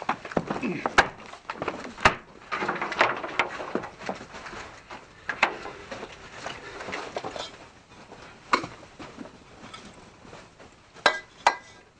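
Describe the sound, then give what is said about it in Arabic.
A locked wooden house door is forced open by two people with irregular heavy thuds and sharp cracking knocks, spaced a few seconds apart, with strained creaks and low voices in between. “علينا أن نخلع الباب، وعليك أن تساعدني في هذا.”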